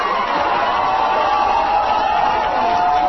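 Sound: crowd cheering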